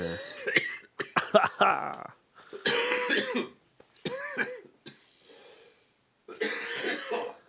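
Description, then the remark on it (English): A person coughs hard after smoking a joint, in several rough, hacking bursts, with short pauses between fits and a throaty clearing sound mixed in. “We didn't cough one time through that first joint.”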